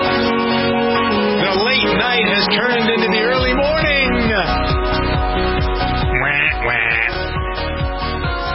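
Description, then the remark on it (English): Loud, repeated duck quacks ring out, layered over a dense, steady musical backdrop that runs through the whole stretch. “Do you quack at Jennifer Horn?”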